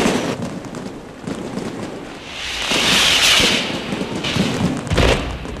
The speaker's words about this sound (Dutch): En dan werd er overal, tot diep in de nacht, vuurwerk afgestoken om het nieuwe jaar luide in te luiden.